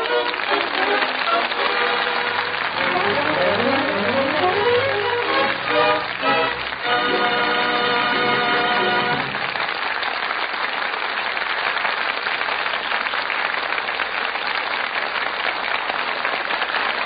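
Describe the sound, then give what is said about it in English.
A theater audience at the Gulf Theater breaks into loud, enthusiastic, sustained applause after the show, a dense wash of clapping that runs steadily on. Pitched music plays over the first half, then the clapping continues alone. “From that enthusiastic applause, it sounds as though our audience here in the Gulf Theater really enjoyed the show.”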